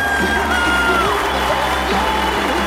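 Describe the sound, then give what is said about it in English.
An audience claps steadily in a dense, continuous wash of sound as a performer is welcomed to the stage, with scattered cheers and whoops rising above it for the whole stretch. “Big round of applause.”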